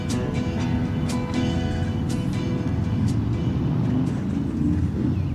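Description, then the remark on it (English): Several motorcycle engines rumble steadily in the town of Merrickville along Highway 43, a dense, continuous low drone with occasional sharper clicks and revs layered on top, sustained loudly throughout with no voices. “Sound of a few motorcycles.”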